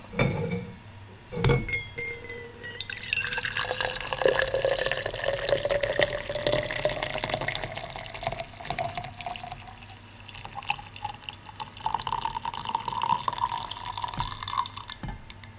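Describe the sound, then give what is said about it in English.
Coffee pours steadily from a French press into a mug, a continuous trickle whose pitch rises as the cup fills, with a faint clink near the start and no talking. “Now comes the best part, the pouring of the bean juice.”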